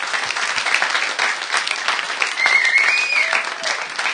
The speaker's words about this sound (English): Ladies and gentlemen, round of applause at the end of that round.